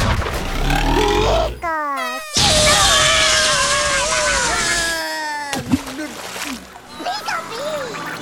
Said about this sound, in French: La tête du président est tombée à l'eau!